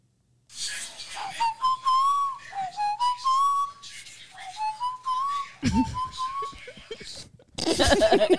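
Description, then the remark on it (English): Someone whistles a tune, recorded as a voice memo, in a string of short, rising phrases over a murmur of background noise, with louder bursts of commotion near the end. “I can't whistle.”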